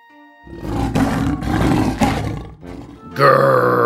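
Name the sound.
lion roaring loudly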